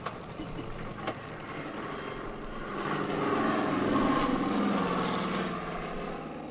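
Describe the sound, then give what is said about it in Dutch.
A propeller airplane drones steadily, swelling louder as it passes overhead midway through, then easing slightly as it moves on, dropping sacks onto a railway embankment in a relief effort. No voices, just the continuous engine roar. “Daar is weer het vliegtuig en daar vallen weer de zakken naar beneden.”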